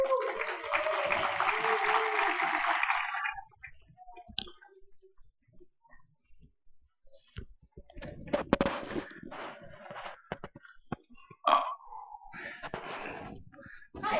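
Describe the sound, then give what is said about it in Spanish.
A dense burst of audience applause for the first presenter fills the first few seconds, then dies away into scattered faint clicks, shuffling and a few brief murmurs. “que te da esta segunda oportunidad para aplaudir.”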